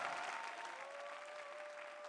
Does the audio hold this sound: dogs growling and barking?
no